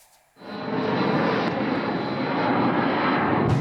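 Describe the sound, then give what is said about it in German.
A loud, steady engine drone from a Russian attack drone or missile passing overhead during a night attack on Ukraine, aimed mainly at Kyiv, starting abruptly and holding a continuous buzzing roar throughout, with no voices. “Welle um Welle schickt Russland hunderte Drohnen und Raketen unterschiedlichster Typen, vor allem auf die Hauptstadt Kiew.”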